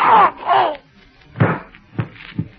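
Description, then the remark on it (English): Two strained, groaning vocal bursts give way to a gun firing as Candy Myers grabs a masked man's arms in a struggle. This is heard as three dull, heavy thuds spaced about half a second apart, with faint breathy noise between them. “Springing forward, Candy Myers' hands are closing around the masked man's arms as the gun fires.”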